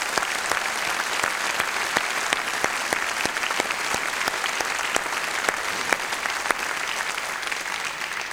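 Steady audience applause fills the whole stretch, a dense wash of many hands clapping at an even, fairly loud level, with no one speaking over it.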